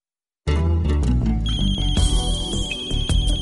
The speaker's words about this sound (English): The phone in Alex's house rings.